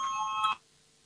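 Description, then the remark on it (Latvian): A voting bell in a parliament chamber gives one steady, bright electric ring lasting about half a second before a vote on the fifth proposal of Minister of Justice Jānis Bordāns, then cuts off sharply, leaving quiet with faint background hum and no talking. “Lūdzu, zvanu balsosim par piekto tieslietu ministra Jāņa Bordāna priekšlikumu.”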